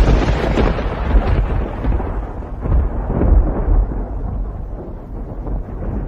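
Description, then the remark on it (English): Loud, deep thunder from an electric storm rolls and rumbles steadily for several seconds, its crackling edge slowly softening as it drags on, with no voices present. “I don't think a great flood is coming, but a storm, viewer. Well, that's a different entity entirely, isn't it? That's electric.”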